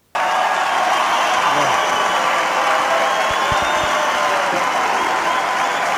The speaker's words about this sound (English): Trump's walking around the stage to this cheering, like, oh, yeah, hilarious. Like, he's accepting the applause. He's just walking around the stage in silence with his arms up, going, yep, yep, I'm right, I'm right.